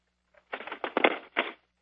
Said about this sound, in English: All right, and I'm hearing some typing in the background. If we could please mute the phones, thank you.